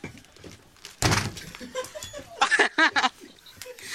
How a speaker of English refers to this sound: That sounds like a good slap, so... Do it again. Are they developed enough for you? You whack your leg on the table and give it a slap. And let's see how who she prefers. Okay, here comes my leg.